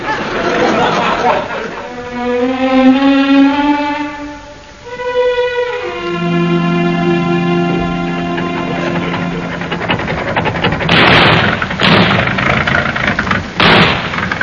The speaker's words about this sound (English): Car's going better since we had the new engine put in.